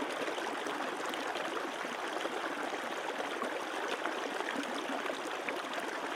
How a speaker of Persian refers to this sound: تو دوباره به صدای آب گوش بده. صدای آب رو بشنو.